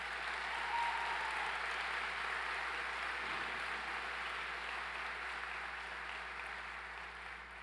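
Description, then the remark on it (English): A large audience at a 2023 law school graduation ceremony claps steadily for several seconds for the professors, a dense, continuous wash of applause that gradually tapers slightly toward the end. “Could we also give our professors a round of applause as well?”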